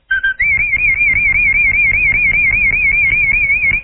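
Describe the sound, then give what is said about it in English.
A person whistles a fanfare loudly: a brief lower note, then a long, piercing tone held with a steady warbling wobble, almost electronic in its purity, with no talking. “Can you whistle a fanfare for us?”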